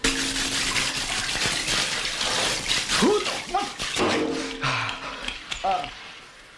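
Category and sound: household object, hot water running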